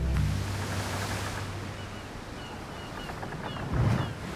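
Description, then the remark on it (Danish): Steady ocean waves wash and rumble on the open sea, a broad continuous surf with a low roar and a brief swell near the end, no voices present. “Den første sørøverhistorie, vi har til dig, starter ude midt på det åbne hav.”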